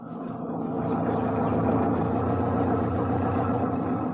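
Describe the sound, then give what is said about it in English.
A jeep-type motor lorry engine runs steadily while travelling across the hot plains of East Africa at midday, a continuous low rumble with a dense mid-range drone, fairly loud throughout with no voices. “We traveled in a Jeep type of motor lorry.”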